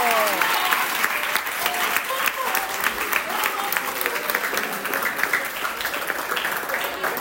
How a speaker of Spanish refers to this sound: ¡Un aplauso, chicos!